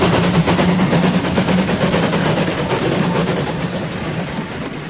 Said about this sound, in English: Hold on, that's a goods train. The king wouldn't be on that.